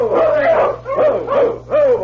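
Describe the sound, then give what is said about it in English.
A team of sled dogs on a trail barks and yelps in several loud bursts, their calls rising and falling in quick succession with brief gaps between. “Suddenly, he heard voices in the dog team as he rounded a bend in the trail”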